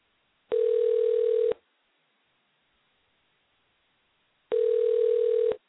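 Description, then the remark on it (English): Two telephone ring tones on a line while a call is placed to connect with a guest, each a steady, mid-pitched buzzing hum lasting about a second, separated by a few seconds of near silence. No one speaks. “We have the phone ringing.”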